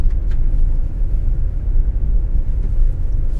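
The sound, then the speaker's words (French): A car drives along the Route forestière de la Reine, a rough forest road with many fallen branches, its engine and tyre rumble loud, low and continuous from inside the vehicle, with faint knocks and rattles and no voices. “Là, nous sommes sur la route forestière de la Reine.”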